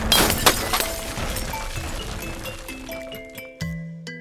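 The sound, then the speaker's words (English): A clock with a glass and copper casing shatters: a loud crash of breaking glass and metal, scattered clinks and clatter as gears fly, then lingering metallic ringing tones that fade out, with one last clunk near the end. “I imagined the clock, the hour hand specifically, ripping from its glass and copper casing, and in an explosion of gears and metal.”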